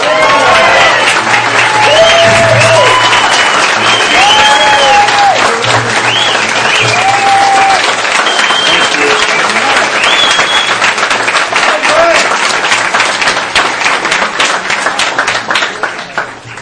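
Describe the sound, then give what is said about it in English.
Sustained applause from a large audience at a People's Weekly World forum, welcoming a speaker before his talk. Dense steady clapping at full volume for about sixteen seconds, with faint voices and a few cheers mixed in before it tapers at the end. “Well, you know, it gets embarrassing when the applause you get before you speak are longer than the applause you get after you speak.”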